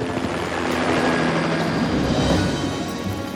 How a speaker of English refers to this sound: As Governor Ward landed in the police helicopter,